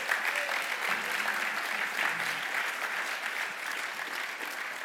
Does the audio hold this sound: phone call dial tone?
no